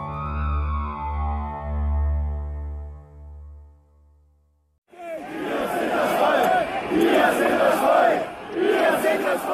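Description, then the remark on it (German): A low, sustained electronic tone fades out, then a loud crowd of a few hundred supporters of the anti-foreigner Pegida movement bursts in, chanting the slogan "Wir sind das Volk" in rhythmic, shouted waves of many voices. “Ein paar hundert Anhänger der ausländerfeindlichen Pegida-Bewegung rufen das nicht nur, sie glauben es tatsächlich.”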